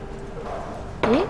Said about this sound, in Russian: Выкладываем тоже в чашечку. Сюда заливаем воду.